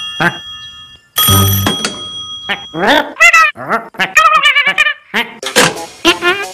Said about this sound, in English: The phone!